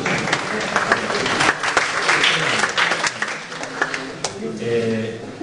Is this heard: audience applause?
yes